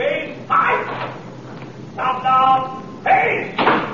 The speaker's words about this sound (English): We've got to hurry right along here because it's Friday again, and of course that means time to close up CBS for the weekend. Famous locking the door ceremony. Featuring all of the cast and employees.